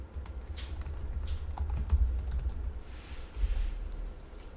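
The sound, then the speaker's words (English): Steady computer keyboard typing as names of superheroes are typed into a code enumeration: a quick, irregular run of light clicks and taps over a low hum, with brief pauses between bursts of keystrokes and no voices. “So I'm going to go outside of the class and create a new enum enumeration called superhero, open close curly brace, and then I'm going to start typing in the names of superheroes in for my enumeration.”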